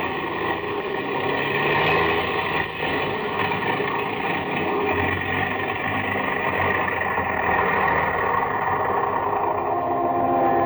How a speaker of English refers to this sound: The engines are stopping. We're going to fall.